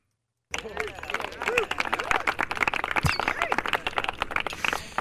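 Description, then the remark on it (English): Polite golf applause sound effect kicks in abruptly and continues steadily, a dense patter of many hands clapping, with a few murmuring voices and faint calls mixed in. “I don't have the applause. Golf.”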